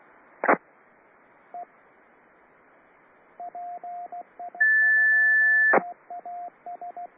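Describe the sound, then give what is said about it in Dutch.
A steady, high-pitched 1750 hertz radio tone, sent when someone presses the wrong button during the Hunebed round radio net, holds for about a second, framed by sharp squelch bursts and a scatter of short, quieter beeps over faint radio hiss. “Ik hoor alleen maar een 1750 hertz pieptoontje.”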